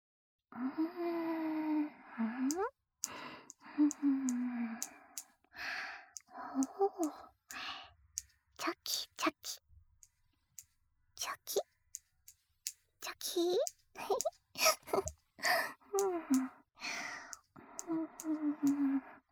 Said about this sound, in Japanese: ハサミで眉の形整えるね。